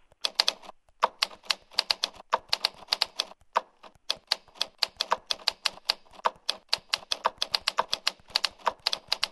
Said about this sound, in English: You notice the difference in the sound because there's the keys themselves, but then you have the space bar.